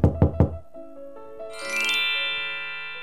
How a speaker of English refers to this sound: The wolf knocks on Grandmother's door.